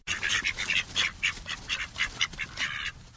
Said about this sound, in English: keeps bantam ducks in her backyard. The ducks are really for her dogs to practice their herding with, but in the winter, they don't earn their keep at all.